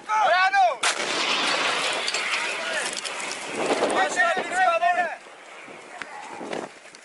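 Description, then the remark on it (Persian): Artillery fire during night clashes between Armenian and Azerbaijani forces, recorded by Azerbaijani military night-vision cameras: a sharp, heavy boom breaks out early, followed by a long rumbling, crackling roar, with raised voices calling out before and after the blast. “امروز رو با نیم نگاهی به جنگ تازه بین ارمنستان و آذربایجان شروع میکنیم، جایی که درگیری نظامی به اوج خودش رسیده و حملات توپخانه‌ای تلفات رو داره افزایش میده.”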